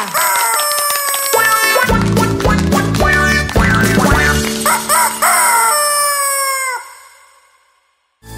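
A loud rooster crow, stretched out and warbling over a bouncy musical backing, with several rising and falling calls before it trails off and fades near the end.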